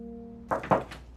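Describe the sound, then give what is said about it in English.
A few knocks on an office door, about four dull raps in an uneven rhythm, following a faint steady electrical hum with no one speaking. “knocks on Autumn's office door.”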